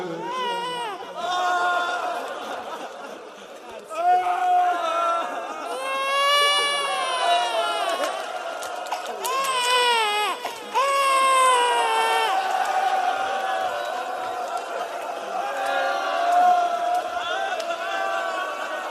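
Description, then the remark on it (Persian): A six-month-old baby wails continuously in long, high-pitched, strained cries with brief catches for breath, loud, with a faint crowd murmur underneath. “پس هیچ صدایی نشنیدیم به غیر از رجز گریه شش ماه که میگفت هنوزم که هنوزت کسی هست که کاری بکند، هنوزم که هنوزت کسی هست که کاری بکند.”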